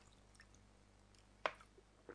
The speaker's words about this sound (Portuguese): Bebendo mais um pouco d'água.